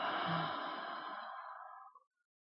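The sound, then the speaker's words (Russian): A single long, breathy exhale pushed through the throat after a deep inhale through the throat, during a guided breathing exercise; fairly loud, with a hoarse rasp that fades out over about two seconds, then silence. No talking. “Делаю глубокий вдох через горло и выдох тоже через горло.”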